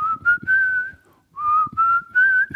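whistled melody

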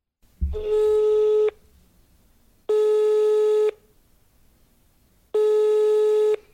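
telephone call tones

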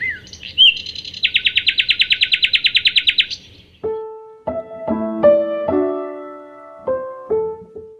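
nightingale singing

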